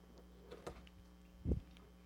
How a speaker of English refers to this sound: Sounds like a dramatic pause online, but I'm changing batteries. Sorry, while I do.